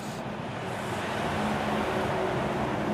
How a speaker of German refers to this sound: Ein Laster mit Baumstämmen dröhnt vorbei. Die pittoreske Hauptstraße mit ihren Galerien, Antikläden und dem ehemaligen Opernhaus ist offiziell ein Highway.